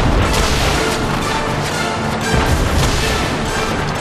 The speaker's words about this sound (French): Les canons font feu de toutes parts, envoyant voltiger les Huns dans les airs.